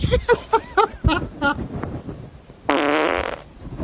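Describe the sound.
A loud, buzzy fart lasting under a second rips out near the end, following a stretch of talking and laughter.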